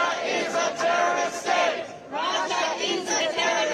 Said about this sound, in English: Protesters waved Ukrainian flags, sang patriotic songs, and chanted as they marked the first anniversary of Russia's invasion of Ukraine.